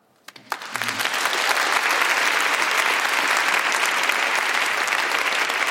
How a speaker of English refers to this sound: I also am not particularly comfortable with claps. Give him another clap. Yeah. Listen, let's make you comfortable with it.